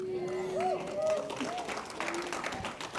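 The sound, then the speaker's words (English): Light, scattered golf clap from a small church audience after worship, soft and polite rather than enthusiastic, with a voice speaking and murmuring over it throughout. “That was a golf clap if ever I heard one.”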